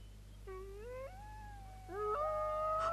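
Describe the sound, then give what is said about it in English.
Wolves howling in long, rising tones: one howl climbs and holds, then a second howl overlaps it, the chorus swelling louder at the end over a low steady hum. “Did you hear that? Wolves!”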